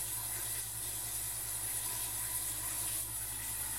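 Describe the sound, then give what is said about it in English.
Steady, hissing rush of shower water running without a break while someone showers, with a faint low hum underneath and no voices. “Thought it was alright to peep on people in the shower?”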